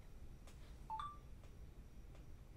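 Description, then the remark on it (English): A single short electronic phone beep, like a dialing tone, chirps once near the middle against a quiet background hiss, with a couple of faint clicks around it. “Phone was that?”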